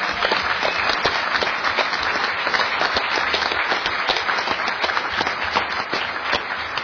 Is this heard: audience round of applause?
yes